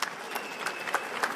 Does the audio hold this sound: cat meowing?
no